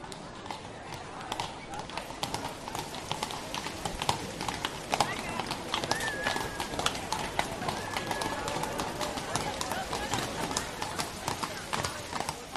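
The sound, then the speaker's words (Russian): A horse-drawn carriage rolls along a railway station square, hooves clip-clopping in a steady, continuous rhythm at moderate loudness, with faint birdsong and indistinct voices in the background. “На вокзальной площади Холмс и Болотов сели в экипаж.”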